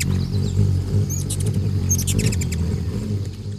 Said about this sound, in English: A tiny bird just whizzed by like a bullet. There it is over by those scarlet flowers hovering. It's a hummingbird. It must be a ruby-throated hummingbird, the only hummingbird that nests in the eastern states. No wonder it buzzed you.